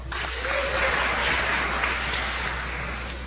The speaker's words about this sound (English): Let's give all the recipients of the Student Leadership Award a round of applause.